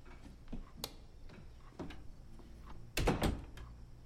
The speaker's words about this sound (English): She shuts off the light and closes the door.